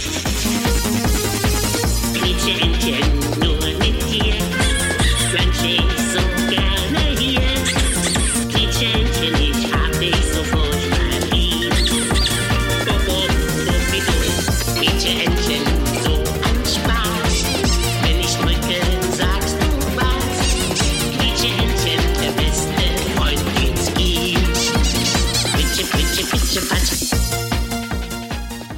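An upbeat Eurodance track with a pounding, steady four-on-the-floor beat and bright synths, loud and continuous throughout, topped by a squeaky, cartoon-like vocal.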